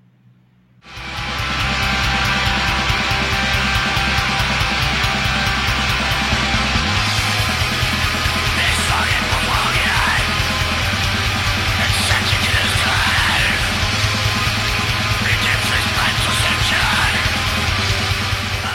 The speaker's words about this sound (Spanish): Y eso se ve reflejado claramente en esos gritos endemoniados. ¿Qué pedazo de álbum se ha mandado este trío inglés?